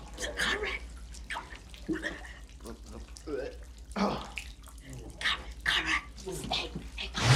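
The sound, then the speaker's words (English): A thin stream of liquid pours steadily through an outhouse toilet seat into the pit below, splashing and trickling while a voice speaks over it, with the flow growing louder toward the end. “From above, a thin stream of liquid pours through one of the toilet seats.”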